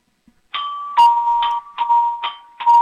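household object, doorbell ringing

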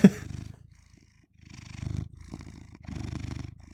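animal, domestic cat purring

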